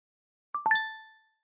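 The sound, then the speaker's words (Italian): A short notification chime as Bram's PC receives a morning chat notification from Anton: a quick cluster of bright, clear tones that ring out together and fade smoothly within about a second, heard alone. “Quella mattina il PC di Bram riceve una notifica.”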